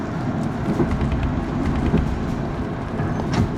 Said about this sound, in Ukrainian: Про те, що більшовики уже на підступах до Києва, свідчать звуки пострілів, які доносяться крізь стукіт коліс.